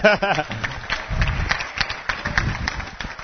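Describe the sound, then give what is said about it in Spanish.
After a brief voice at the start, an audience breaks into steady applause, a dense patter of many hands clapping that holds at a fairly even level for a few seconds. “¿Aplausos?”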